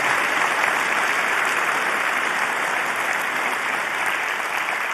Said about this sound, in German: Ja, außerdem gibt es ganz viele Leute, die seit Wochen hier sind in den Hallen und den Kongress aufbauen, freiwillig, ohne Bezahlung. Genau, das hat auf jeden Fall einen Applaus verdient.